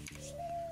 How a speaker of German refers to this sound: Oh, das ist wieder die Eule. Das ist eine Taube, Mann, das ist keine Eule. Ja, aber die klingt viel zu cool für eine Taube. Normalerweise klingt Tauben. Ja, normalerweise klingt Tauben immer viel. So ein bisschen tiefer und dumpfer